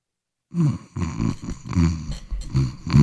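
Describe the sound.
People fake snoring, pretending to be asleep while someone comes up in an elevator, with exaggerated nasal snorts and rumbles repeating in quick, uneven bursts. The sounds are fairly loud, with several voices overlapping after a brief silence.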